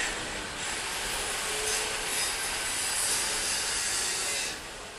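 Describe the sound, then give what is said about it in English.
Busy metalworking street noise on Workshop Street (Sharil Warsha), where craftspeople do steel cutting, copper welding and glass making: a dense, steady wash of grinding and scraping, harsh and hissy, holding a fairly even loudness before easing slightly at the end. No voices stand out. “You hear the sound of incredible activity. This is Workshop Street, Sharil Warsha, where you have all of these experts in steel cutting, in copper welding, in glass making.”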